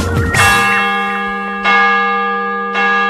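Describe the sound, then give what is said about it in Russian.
Bells of a Russian Orthodox church in Brussels, Belgium, ring out loudly with a rich, sustained hum, fresh strikes landing at irregular intervals as the long tones overlap and decay; no voices. “А слышите вы колокола Русской Православной Церкви и овы многострадального на Рю де Фре.”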